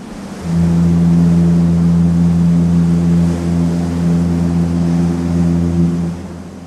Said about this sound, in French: La silhouette d'un grand paquebot d'Australie pour Tilbury passe ainsi à toucher dans un mugissement de sirène.